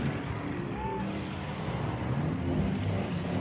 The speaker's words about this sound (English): Let's build a city. We'll need a lot of people. And buildings. And traffic.